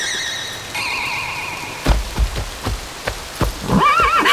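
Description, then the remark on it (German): A horse, a mare, whinnies near the end with a quavering, wavering call as she is carefully pulled back onto firm ground, after sustained shimmering tones and a run of soft thumps and patters. No one speaks. “Und jetzt Ene mene Herde, Pferdchen auf die Erde.”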